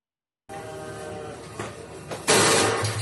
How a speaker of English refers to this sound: In the middle of this Beirut supermarket, just one of hundreds of simultaneous explosions.